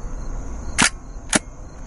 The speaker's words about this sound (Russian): Я ушел, я взял Hasselblad. Я бы тоже взял бы Hasselblad. Зачем мне этот Rollerflex? Я вот хочу, чтобы ты слышал звук затвора и движение, которое происходит, когда ты нажимаешь на